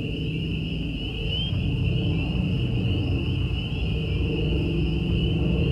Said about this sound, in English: A plane comes closer and closer and closer.